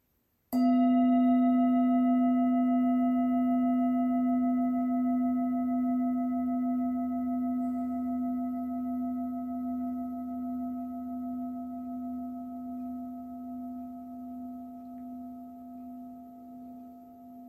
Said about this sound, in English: I'll begin and end the meditation with the sound of the bell.